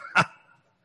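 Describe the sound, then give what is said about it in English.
A single short dog bark rings out sharply on its own, followed by a brief fading tail and then quiet. “And woof!”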